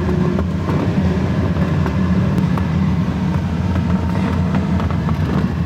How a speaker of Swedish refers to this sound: Ja, det är alltså en jätteskön känsla att åka i det här planet.